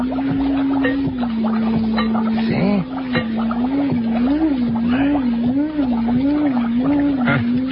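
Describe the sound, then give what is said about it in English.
A few light taps on a glass jar sound over a steady, low electronic hum from an encephalograph amplifying the alpha rays of a creature in the jar. The hum soon starts warbling up and down in regular pulses as the creature reacts to the tapping. A voice speaks briefly. “Notice what happens when I tap on the glass jar.”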